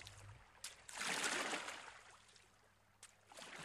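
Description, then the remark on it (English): Water swishes and splashes as a rowing boat is rowed at night along the River Thames toward the sea, with a broad surge of wash in the middle and small oar-like splashes before and after, fairly soft. “They row towards the sea at the end of the great River Thames.”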